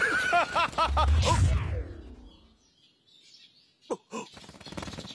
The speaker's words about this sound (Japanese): なんだ今のは。小鳥が背後から来てどうなったんだ。